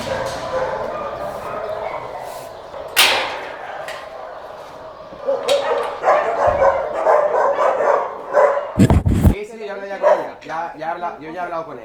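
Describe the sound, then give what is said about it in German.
Several small dogs, mostly Podencos, bark and yip in a chorus in kennel enclosures during morning cleaning, sharp overlapping yaps with some whining, echoing, with people talking underneath. “Sind jetzt in den Gehegen, wo die kleineren Hunde sind und vorwiegend Podenkos. Aber auch ganz andere Hunde.”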